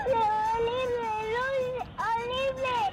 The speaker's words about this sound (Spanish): Dice, comprobé la cantidad de lágrimas y de veces que mi madre sale llorando compungida en los vídeos de las bodas de mis hermanas y en la mía.